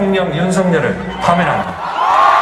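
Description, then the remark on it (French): A dense crowd of pro-democracy protesters on the main square of Seoul, South Korea, shouts and cheers loudly and continuously in joy at an announced decision, overlapping voices rising and falling with a few high whoops cutting through the roar. “Des cris, des applaudissements et même une fanfare.”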